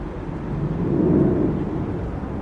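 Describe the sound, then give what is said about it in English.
Fighter jets escorting international flights into Washington, D.C.'s airports over the weekend roar overhead, a deep, steady rumble that swells to a peak midway and then eases slightly, with no voices present. “Fighter jets could be heard accompanying international flights to Washington, D.C.'s airports over the weekend.”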